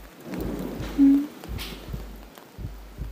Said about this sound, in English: For thunder, it's a little scary, isn't it?